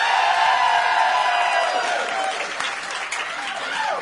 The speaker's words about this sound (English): All right, well, maybe you guys can scream louder, but we can scream more often. An important distinction.